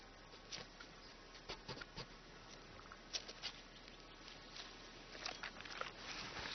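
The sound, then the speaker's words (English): Light, quick pattering of a pine marten moving over leaves or branches among forest trees in spring, irregular soft taps and scuffles against a faint, steady background hiss, with no voices. “But they are present. A pine marten.”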